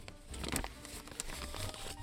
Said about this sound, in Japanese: 不要なレシートがありましたら、耳元でクシャクシャしたり破ったり、レシートをレシートでこすったりしてほしいです、ということなので、早速不要なレシートを用意しました。あー、もういい音。さて、今回ガサガサしていたレシートはですね、